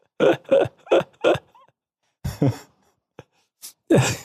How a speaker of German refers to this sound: Entschuldigung. Entschuldigung, dass ich rülps. Aber das ist wirklich du merkst, die leckere Geroldsteiner Apfelsaftschorle.